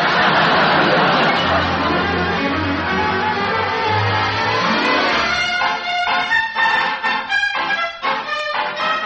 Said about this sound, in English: This is sure a swell drive. We haven't passed a house or another car for miles. Oh, we're really out in the country now, boys.